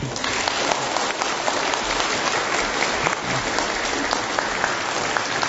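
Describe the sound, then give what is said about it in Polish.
Steady applause from an audience, a dense wash of many hands clapping at an even, fairly loud level throughout, with no voices standing out. “Brawa”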